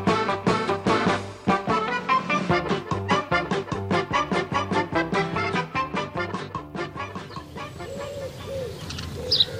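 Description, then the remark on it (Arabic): A dense chorus of birds calling at once, with rapid overlapping clucks and chirps like a busy poultry yard, loud and close, continuing steadily throughout. “ما أجمل هذه الطيور. كم أشعر بالسعادة عندما أراها يا أبي.”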